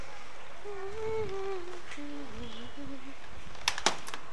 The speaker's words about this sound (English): Ah! Door closing. Door closing, as the talking microwave would say.